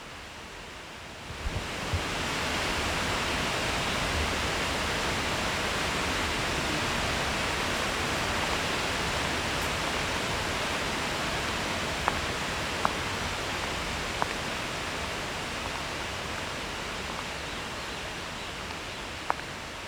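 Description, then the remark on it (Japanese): A powerful waterfall, a whole river dropping from the top of a sheer rock face, roars steadily into its plunge pool, a dense, unbroken wash of noise across all pitches, with a few faint clicks or splashes poking through near the end. “できないから少し滝壺から離れましょう。”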